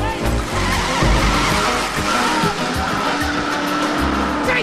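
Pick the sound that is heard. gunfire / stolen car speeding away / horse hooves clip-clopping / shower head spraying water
stolen car speeding away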